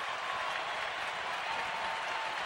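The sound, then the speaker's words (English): A crowd claps steadily throughout as applause for the controllers in Victoria, a dense, continuous patter of many hands with no pauses, at a moderate level and without any voices. “And that's applause for the controllers up there in Victoria.”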